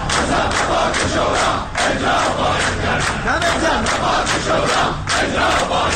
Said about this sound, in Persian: بازنشستگان در خیابان‌های شهر بر ازای سفره‌های خالی نشستند و برای احقاق مطالباتشان مصوبات شورای عالی کار را فریاد می‌زنند.